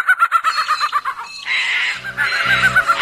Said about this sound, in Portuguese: Um dos mais conhecidos entre os falcões brasileiros, o acauã é sem dúvida o mais barulhento.